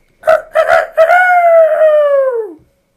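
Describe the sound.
A voice imitates Peter's rooster-like crow, loud: three quick clipped syllables, then one long drawn-out note that slides downward and fades out.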